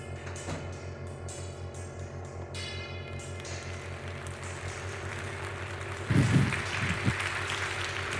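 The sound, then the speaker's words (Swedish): Applause of many hands swells gradually from faint to a steady, dense clatter, with a louder burst near the end, over a low constant hum and no voices. “Brukar du också få applåder när du kommer till jobbet?”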